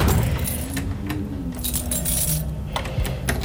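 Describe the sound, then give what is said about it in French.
Keys jangle and clink in a run of bright metallic rattles over a low rumbling background, with a few sharper clicks near the end as a door lock is turned. “Toujours fermer la clé.”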